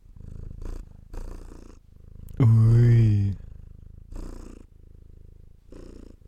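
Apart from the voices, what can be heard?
cat purring on lap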